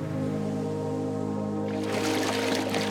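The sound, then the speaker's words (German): A sustained tonal drone hums steadily, then about two-thirds of the way in a bright, noisy water splash bursts in as someone surfaces from the sea at a beach, churning over the drone until the end. “Endlich hörst du ein Platschen und Auri taucht neben dir auf.”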